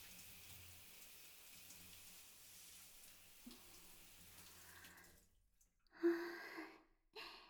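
Water pours and splashes steadily for several seconds as someone's back is rinsed in a bath, then cuts out into near silence before a few short, louder splashes and a soft breathy sound.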